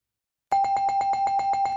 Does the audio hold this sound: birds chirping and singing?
no